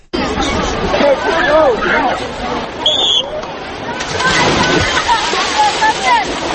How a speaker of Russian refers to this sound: Громкие свистки на Сухумской набережной недалеко от руин древней крепости Диоскурии в это утро не прекращались.